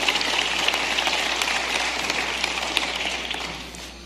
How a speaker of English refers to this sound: Let's give the Lord another hand clap of praise tonight.